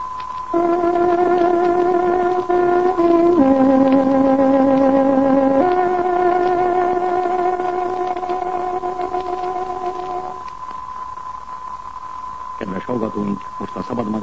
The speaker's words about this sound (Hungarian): Kedves hallgatóink, pontos időjelzést adunk. Tárogatónk hangja 18 órát jelent.